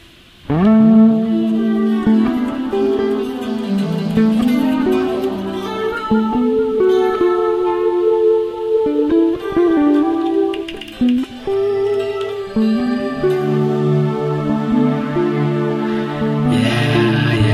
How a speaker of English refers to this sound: So I play my guitar.